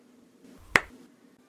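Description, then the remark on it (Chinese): A single sharp, hard slap with the right hand on the buttocks cracks out once, crisp and loud against an otherwise quiet, faintly humming background, then quickly fades with no other sounds or voices. “好了，用右手狠狠地给我拍下去啊。”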